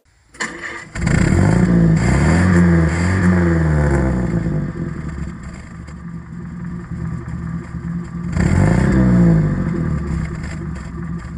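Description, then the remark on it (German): A 1934 car's engine cranks, without being hand-cranked, and catches, then runs with a rough, rattling idle before being revved up twice, the pitch rising and falling with each rev; loud, no voices. “Und ich hätte vorgeschlagen, bevor wir jetzt schon enthüllen, welches Auto wir gefahren sind, hören wir erstmal den Sound, oder?”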